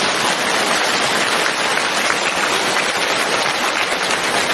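Steady, dense audience applause fills the whole stretch, a loud, even wash of many hands clapping with no pauses and no voices over it.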